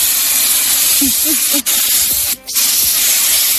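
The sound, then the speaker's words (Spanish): A loud, steady hiss of insecticide spray being used on a wasp nest in Nambroca, Toledo, Spain, runs almost the whole time, broken by two short pauses before it resumes. A few faint low chirps sit beneath it early on. “Es el flis.”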